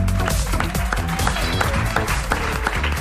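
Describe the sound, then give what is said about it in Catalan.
Sustained audience applause, a dense wash of many hands clapping at a steady loud level for a few seconds, with no voices rising above it. “Un aplaudiment per tots tres.”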